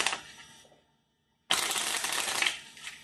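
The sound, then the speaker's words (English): Two bursts of crisp, rapid card shuffling, with playing cards riffled together by two hands, fairly loud, separated by a brief pause of near silence. No one speaks. “shuffling with two hands.”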